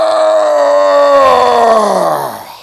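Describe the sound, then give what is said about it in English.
A man's voice imitates the big roar an animal lets out when it dies: one loud, drawn-out bellowing groan, held steady and then sliding down in pitch as it trails off, heard alone. “When they die, they let a big roar.”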